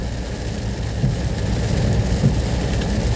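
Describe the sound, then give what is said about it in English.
A storm heard from inside a car: steady, dense rain roars without a break, heavy, with a low rumbling undertone like thunder or an engine beneath it. No voices are heard. “As soon as I get in the car, the storm starts.”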